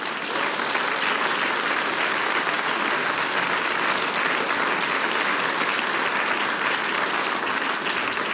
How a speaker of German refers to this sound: Das ist euer Applaus, die Burgenland Blech-Cuvée.